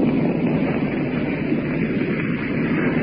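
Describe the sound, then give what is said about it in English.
A steady, continuous engine drone of German warplanes passing overhead at night on June 6th during their first attack on the shore and convoys, dense and unbroken, with no voices and no change in loudness. “These planes you hear overhead now.”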